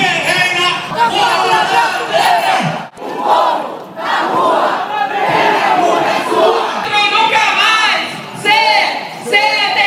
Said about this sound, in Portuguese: O ato ocorreu na Praça Raposo Tavares, mas os manifestantes também saíram em passeata pela rua Gilberto de Carvalho e as avenidas São Paulo e Horácio Racanelo. Durante o protesto, foram vários gritos de ordem. Fora Temer! Fora Temer! Dilma!